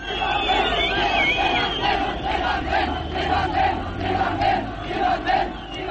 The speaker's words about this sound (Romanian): Au început scandările Ivane, du-te acasă și s-au auzit primele focuri de armă.